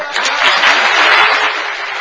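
A crowd claps together in a dense, steady wash of hand claps. It holds at an even loudness for two seconds, with individual claps blurring into a continuous crackle.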